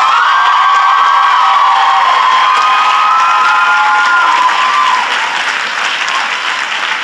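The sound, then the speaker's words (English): A large crowd at a graduation ceremony on Mother's Day applauds the graduates' parents, family, faculty and friends loudly and steadily, with cheers and high-pitched whoops rising above the dense clapping before it eases slightly toward the end. “So please give them a big round of applause.”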